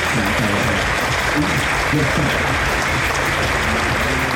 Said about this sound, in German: Applaus gab es auch für die Leobersdorfer Musikschüler. Sie haben beim Bandwettbewerb Podium Jazz Pop Rock 2016 phänomenal abgeschnitten.